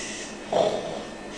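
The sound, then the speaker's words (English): A child's voice imitates a sleeping lion with one short, throaty snoring snort that rises out of a steady background hiss and fades quickly. No one speaks. “So you can hear him sleeping.”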